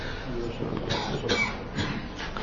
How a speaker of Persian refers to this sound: حالا منم عذر میخوام، هم صدام شاید صدای نامطلوبی باشه و همین سرفه های پیاپی که میکنم و میخواستم هم مشرف نشم خدمت شما آقایون، چون سرفه هم خیلی زیاد هستش، ولی در این حال گفتم حالا تعطیلات زیاده ممکنه.